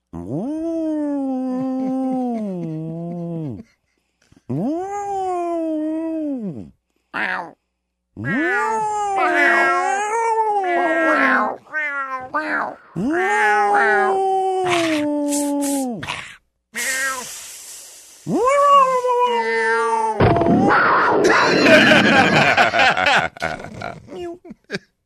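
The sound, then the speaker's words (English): A person imitates a cat with a run of drawn-out, wavering meows, several in a row with short pauses, ending in a harsh, noisy hiss-like burst. Fairly loud. “And do you know who does a nice cat impression?”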